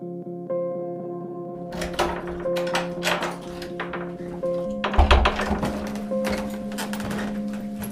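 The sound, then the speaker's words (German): Irregular thuds and knocks like footsteps on a creaking wooden staircase, playing over a steady mechanical hum of high-performance servers with droning tones throughout, in a centuries-old half-timbered house by the Kirchplatz in Wülfrath, Germany. “Hier trifft knarrende Holztreppe auf Hochleistungsserver.”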